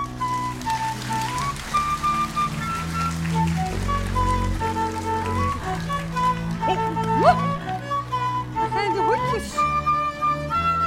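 A crowd claps steadily and continuously for about ten seconds, a dense even patter, while a sustained melodic tone or hummed line wavers on top.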